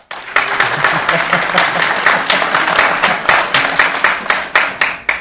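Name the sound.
audience applause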